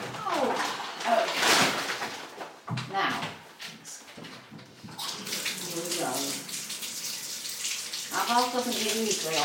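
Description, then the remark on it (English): Tap water gushes steadily into a bathtub, a continuous rushing hiss, while voices talk over it intermittently. “Hey, folks, I haven't got the bath ready yet and I can sit down for more than half a minute.”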